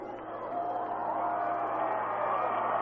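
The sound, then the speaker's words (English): A large crowd at a college football game roars steadily as the final seconds run out and Dixie beats Phoenix College 34-27, a dense wash of cheering and shouting that swells slightly and holds loud throughout. “Listen to the crowd.”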